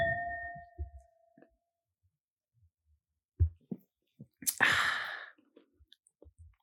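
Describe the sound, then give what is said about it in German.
Wine glasses clink once in a toast, leaving a clear ringing tone that fades over about a second, followed by soft knocks, a breathy exhale and small handling noises, with no one talking. “Auf alles, was wir jetzt gesagt haben.”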